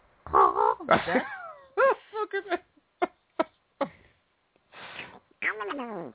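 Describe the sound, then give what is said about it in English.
A person imitates a bird, mixing squawky, warbling vocal calls with a few short, sharp clucks spaced out in the middle, fairly loud and with no ordinary talk. “Okay, so that's, the bird sound.”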